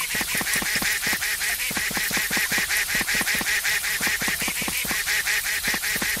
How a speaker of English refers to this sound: The duck's being a jerk.